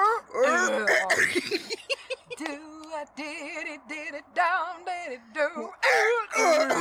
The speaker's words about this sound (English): God. I got a cough laugh.